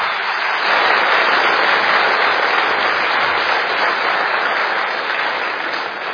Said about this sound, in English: I think we should give those four a round of applause.